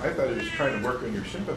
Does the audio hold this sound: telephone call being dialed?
no